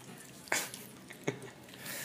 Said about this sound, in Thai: เคี้ยวอยู่